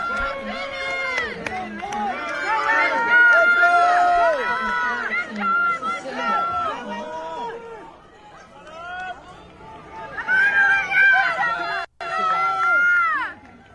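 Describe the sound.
A large outdoor crowd at the Washington State track meet cheers and shouts continuously during a girls' 400-meter race, with overlapping voices and excited yells rising and falling, a brief dip near the end before swelling again.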